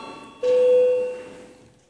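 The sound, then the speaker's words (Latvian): A single electronic bell or chime tone, a parliamentary bell rung before a vote, sounds abruptly and holds steady for about half a second, then rings out and fades, heard alone. “Lūdzu zvanu.”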